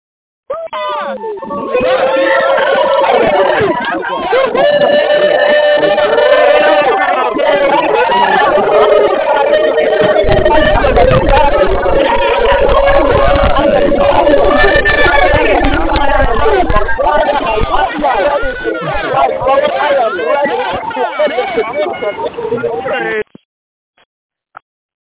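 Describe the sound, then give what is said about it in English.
Callers on a group phone call, their lines just unmuted, shout and scream excitedly at once, a loud, continuous, overlapping crowd of cheering with a band-limited, phone-line quality, holding steady for over twenty seconds before cutting off abruptly. “My friends, if that pumps you up, I want to hear you scream as I unmute the lines right now.”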